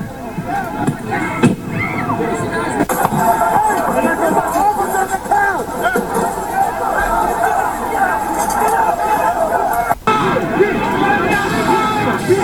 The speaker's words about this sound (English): This is now effectively a riot. 1349 hours declaring it a riot.